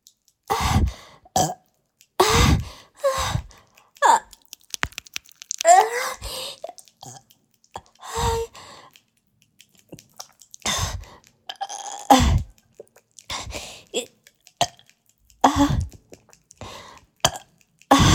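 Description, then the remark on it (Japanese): A series of repeated burps after gulping down a carbonated drink, some short and some drawn out, fairly loud, separated by brief pauses, with occasional groaning vocal sounds in between. “ゲップいっぱい出る。”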